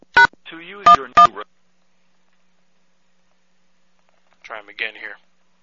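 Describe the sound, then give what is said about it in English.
Three quick touch-tone keypad beeps sound as a 10-digit phone number is dialed, mixed with brief muffled voice, then a pause before a short stretch of speech. “Please enter the 10-digit phone number you wish”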